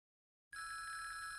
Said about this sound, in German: Ancora il telefono, scusa.